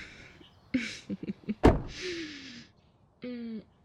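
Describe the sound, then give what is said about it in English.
A few small clicks and rustles lead into a single solid thunk of a door being pulled shut as someone gets in, followed by a brief scraping slide and a short buzzy hum. “I'm just gonna get in here and close the door.”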